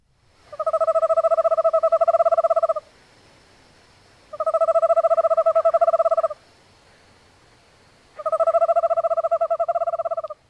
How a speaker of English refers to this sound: Let me play the Eastern Screech Owl. This is the one that sounds like a ringtone, a ringing phone.